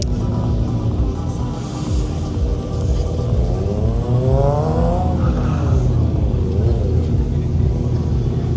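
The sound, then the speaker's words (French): Cars drifting at a track event giving passenger rides: a constant loud engine roar with revs that rise and fall in sweeping bursts, rough tire squeal mixed into the din throughout. “Et je voulais surtout savourer le bruit. J'espère que vous aimez le drift.”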